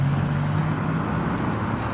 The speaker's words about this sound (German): Naja, das Auto ist immer noch da.